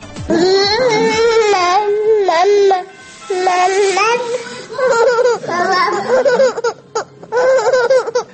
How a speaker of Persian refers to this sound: الانم صدای بچه شنیدید. بله صاحب دوقلو شدم، یه دختر عزیز گلم داره میخند الان دنیا و صاحب یه پسر شدم